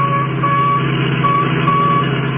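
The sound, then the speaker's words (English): An electronic tracking signal from the radio in a stolen Royal Coupe car beeps in short, repeating pulses over the steady rumble of a moving vehicle's engine, holding at a fairly even level throughout, with no voices. “That's the signal from the radio in the Royal Coupe that they got away with.”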